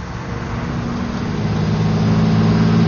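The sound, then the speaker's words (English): A truck hauling a refrigerated container (reefer) set at minus 40 with a frozen load, on the road to the port of Vancouver, drones along with a steady, low engine hum and layered tonal rumbles, holding an even, fairly loud level throughout with no voices. “After all, the reefer was humming away behind him like a long hauler, the load was frozen solid, and it was an easy run into the port of Vancouver.”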